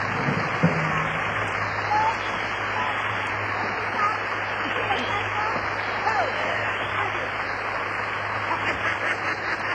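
An audience applauds steadily for about ten seconds, dense overlapping clapping at an even, fairly loud level, with a low steady hum running underneath.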